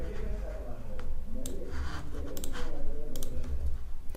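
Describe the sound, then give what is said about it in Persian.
Sharp clicks of typing and a computer mouse, a few scattered taps and short bursts over a steady low background hum, while a page name is entered in the page field to link a Persian Wikipedia article to its English Wikipedia counterpart. “نام صفحه را در بخش صفحه وارد می‌کنیم.”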